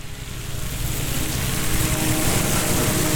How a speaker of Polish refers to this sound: Na środku zaś pluska sobie fontanna, a słońce świeci błogo.